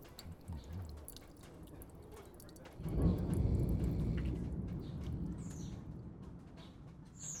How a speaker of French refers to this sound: Les portes qui grincent, la sonnette des voisins, le goutte à goutte de l'eau qui fuit sans cesse, les conversations dans la chambre d'à côté, et tout plein d'autres trucs.